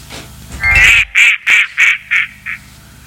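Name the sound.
duck quacking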